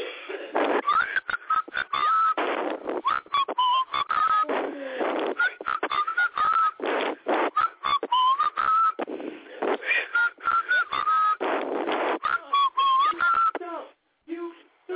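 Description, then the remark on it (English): Someone whistles a bright, bouncy melody in short repeated phrases, loud, over a steady rhythmic musical backing that keeps pulsing underneath. “Can I blow my whistle, baby, whistle, baby? Here we go.”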